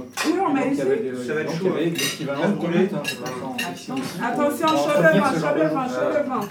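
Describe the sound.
Dishes and cutlery clink repeatedly in bright, scattered knocks, the sharp clatter of washing-up running steadily underneath people talking.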